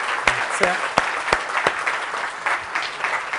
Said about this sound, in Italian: Quindi vi prego di fare un bel applauso